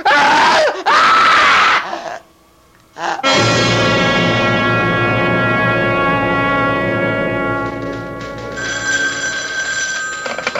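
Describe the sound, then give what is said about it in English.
A woman lets out loud, piercing screams in two close bursts, then after a brief silence a telephone bell starts ringing steadily and keeps going. “Stay away from me, or I'll scream.”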